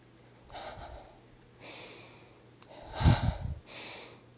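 A person breathes heavily with a racing heart: four drawn-out, airy breaths in a steady rhythm, the third louder and rougher, almost a snort, with no talking.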